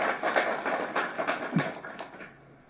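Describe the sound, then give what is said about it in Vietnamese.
An audience applauds a monk's younger brother with dense, steady clapping that holds for a couple of seconds, then tapers off and grows quieter toward the end. “Xin quý vị cho thêm tràng pháo tay lớn nữa.”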